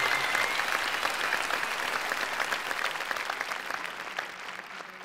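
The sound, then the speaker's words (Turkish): An audience applauds the lyricist of a new song after a singing performance: a dense, steady patter of many hands clapping at an even loudness, easing off slightly toward the end, with no voices. “Çok güzel bir performanstı ve bu söz yazarı da özellikle bence alkış hak ediyor.”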